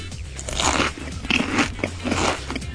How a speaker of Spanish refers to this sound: Por la manera de masticar podéis ver que Gabe Newell está muy contento con este premio y ve que se hace una vez más justicia.